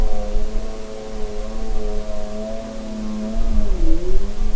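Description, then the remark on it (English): A snowmobile engine drones steadily with a buzzing, harmonic tone that holds level, then dips briefly in pitch near the end before settling again over a wash of hissy noise. “And then the third category is anthropophony, and that's human-generated sounds, everything from people talking while they're hiking through an ecosystem to an airplane flying overhead to something like this snowmobile.”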